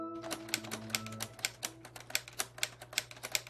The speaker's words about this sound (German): Ja, ich finde, wenige Geräusche können einen so schnell so nostalgisch machen wie Schreibmaschinen tippen. Und in diesem Fall sogar doppelt. Das ist nämlich eine Schreibmaschine aus Lego. Genau, aus Lego-Steinen.